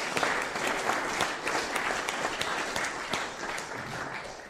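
A church audience applauds steadily, many hands clapping in a dense, even patter that holds its level throughout without any voices breaking through, thanking a member for four years of cutting up the communion bread.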